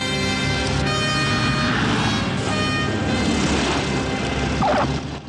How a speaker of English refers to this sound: then descends over a small military camp in the middle of some scrubland. A makeshift runway comes into view and the plane makes to land.